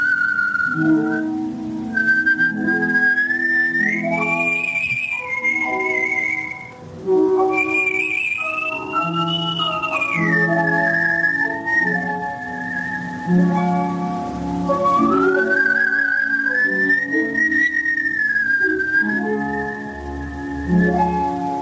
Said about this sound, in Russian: прозвучало «Адажио из Лебединого озера», художественный свист и аккомпанемент